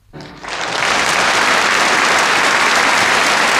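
Applause from the BBC sound archive, added by the sound engineer after the list of poetry book award nominees, swells in over the first half second, then holds as a steady, loud wash of clapping with no voices over it.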